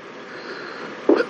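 A single quick, short sneeze bursts out near the end, after a stretch of quiet room hiss with no talking.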